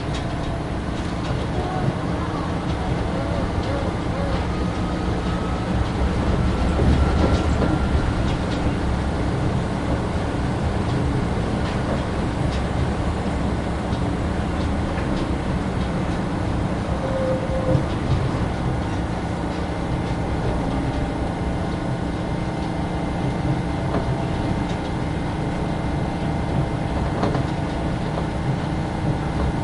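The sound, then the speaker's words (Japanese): A train rolls steadily toward the next station, Ferry Terminal, its low, even rumble and rattling hum holding constant for the whole stretch, with faint onboard announcements in Japanese and English now and then under the noise. “The next station is ferry terminal. Please change here for the ferry.”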